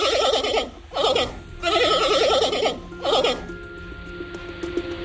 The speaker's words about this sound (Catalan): Doncs fixa-t'hi més, perquè no és una ovella, oh. És un os panda.